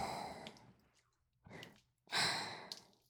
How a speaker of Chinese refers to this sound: 你的喘息声越来越大了